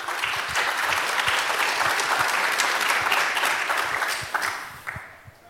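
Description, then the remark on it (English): Sustained applause from a sizable conference crowd thanking the C3 VOC video team, a dense steady patter of many hands clapping that holds loud for several seconds before tapering off toward the end. “Big applause.”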